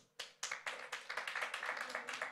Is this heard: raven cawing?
no